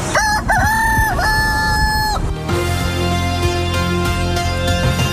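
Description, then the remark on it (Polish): A British man's rooster lets out one loud, drawn-out crow lasting about two seconds, its pitch rising and then holding steady. Sustained musical tones take over right after. “A na koniec poważne problemy pewnego Brytyjczyka z powodu skrzydlatego budzika.”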